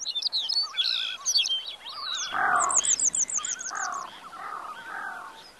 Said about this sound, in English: And any given time, you've got bird sound all around you.